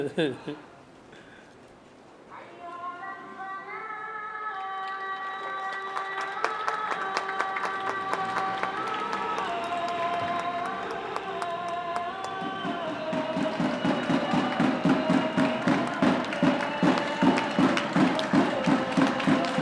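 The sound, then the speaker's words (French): Rapid, steady metallic banging on a cooking pot with something to strike it, recorded as a message for space, grows louder and denser, ringing out over a sustained voice-like droning tone that rises and falls. “On enregistre quelque chose, un message pour l'espace avec une casserole et quelque chose pour taper dessus.”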